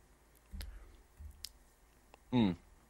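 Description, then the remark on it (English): Soft low thumps and a sharp click as a coffee mug is lifted and handled, followed by a brief voiced murmur after a sip of coffee. No words are spoken. “I'm taking a thoughtful sip of my coffee for the folks who are listening into the audio after the fact while I consider this question.”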